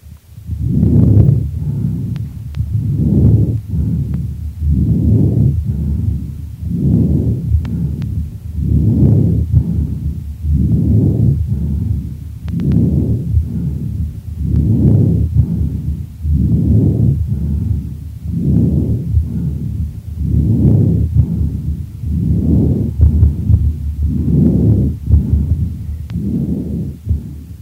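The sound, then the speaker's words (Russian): Harsh, rasping breathing of a patient with chronic bronchitis heard through a stethoscope, each breath a coarse low whoosh repeating in a steady rhythm, loud, about fifteen breath cycles with no talking. “Прослушайте жесткое дыхание, зарегистрированное у больного с хроническим бронхитом.”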